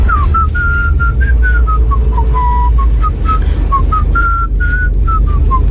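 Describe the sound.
A person whistles a bouncy pop melody, recorded as a voice message with an audio app for a radio station, a steady string of clear short notes rising and dipping in a catchy tune, over a constant low rumbling background hum.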